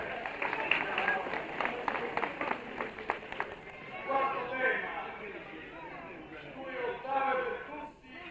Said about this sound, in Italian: Gli applausi devono essere più grandi, più forti, più vivi. Un bel applauso ai poeti, no?